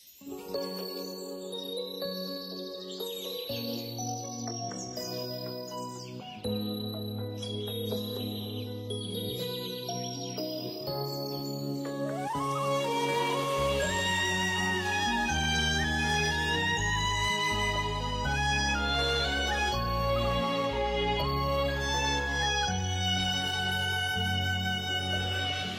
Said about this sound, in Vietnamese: mời quý vị các bạn cùng lắng nghe ca khúc và cảm nhận một vị ngọt đằm thắm rất riêng trong ca khúc